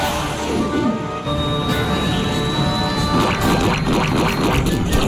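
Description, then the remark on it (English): A rough, struggling engine clogged with bacon grease sputters and chugs unevenly under a steady loud roar, with a faint high whine running through it, as Larry Boy is told to eject; no one speaks. “The bacon grease is clogging the engine!”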